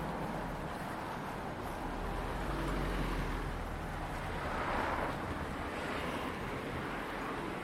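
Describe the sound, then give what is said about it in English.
A car wash dryer blasts a steady, loud rushing roar with a hissy high edge, swelling slightly midway, with no one talking. “Sound of the car wash, you can hear that kind of high-pitched noise as the dryer just stopped.”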